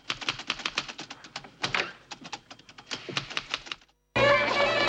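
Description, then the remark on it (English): Furious typing on a typewriter in a nearby office: rapid, busy keystrokes clatter in quick irregular bursts, clear, then stop abruptly and give way to a steady, dense wash of noise after a brief silence. “They hear the noise of Miss Wheeler typing furiously in a nearby office”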